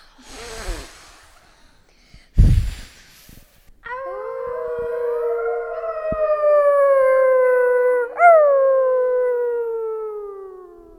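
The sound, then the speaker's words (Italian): A wolf howls in two long, sustained cries, each starting high and slowly sliding downward, loud, preceded by a short breathy rush and a dull thump. “E al soffio del lupo.”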